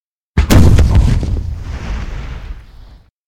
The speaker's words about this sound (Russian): Над заливом пролетел грохот орудийного выстрела. Батарея Эдгара уже заработала.